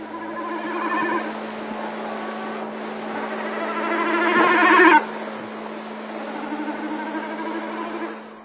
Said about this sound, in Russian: Бекас хвалил болото с неба, с вибрирующим звуком падая с высоты.